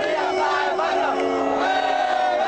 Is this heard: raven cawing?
no